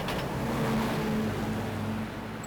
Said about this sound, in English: I took the bus.